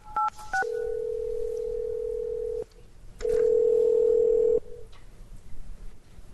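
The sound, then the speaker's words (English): A quick series of touch-tone dialing beeps, then a steady telephone tone that stops and returns louder for over a second, clear with no talking, as a call is placed so that Judge Cudahy can participate in a court session by phone. “So Judge Cudahy is going to participate by phone.”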